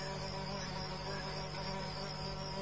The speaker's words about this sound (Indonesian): Kulihat lalat berterbangan di sekitar badannya.